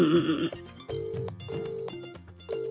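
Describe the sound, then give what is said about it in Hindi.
A phone being dialed from a radio station at broadcast time, a run of short electronic tones at shifting pitches, following a brief harsh burst at the start; the call rings but no one answers. The tones are clear, with no one talking. “अरे रिंग जा रही है, उठाता नहीं है।”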